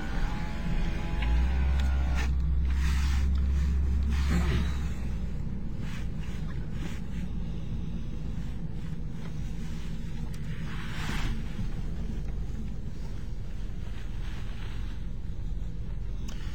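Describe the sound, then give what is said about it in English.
A car rolls slowly into a press parking slot in a parking lot with television live trucks, its engine a steady low rumble with road and wind noise. Nobody speaks. “Louis television station I can see with their live trucks in the parking lot as we now pull into a slot for the press.”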